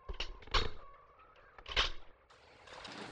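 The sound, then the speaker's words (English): A chair is moved, scraping and creaking across a floor in two short bursts separated by a quieter pause, with faint room noise lingering afterward. “Now, I'll just move this chair over here.”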